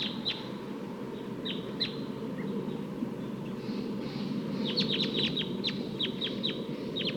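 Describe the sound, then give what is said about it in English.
Sharp, high 'kip' flight calls of a wild crossbill on top of a tall eucalyptus tree, a short burst at the start and a faster run of repeated notes later, heard over a steady broad rushing background noise. “So recording, I'm down by the test birds, and there's a wild crossbill on top of a tall eucalyptus here.”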